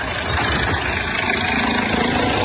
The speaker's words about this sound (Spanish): Se logra escuchar. Es el helicóptero de carabineros que se está posando sobre la ruta para poder prestar el apoyo.